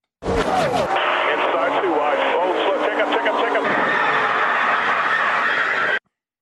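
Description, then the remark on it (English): A loud, chaotic multi-car crash sound effect, used as a cue for listeners to call in: a burst of impact, then about six seconds of sustained clattering noise laced with wavering squeals, which stops abruptly. “Ow, that sounded like Talladega over the weekend. Mm-hmm. Yeah, 18 cars involved.”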